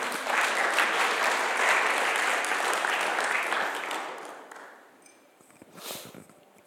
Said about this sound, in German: Ein Applaus für dich.